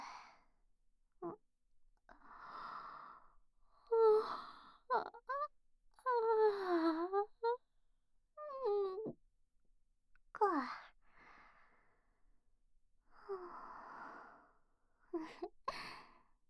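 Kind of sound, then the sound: human body sound, big yawn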